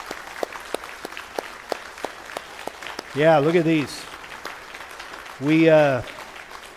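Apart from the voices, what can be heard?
audience applauding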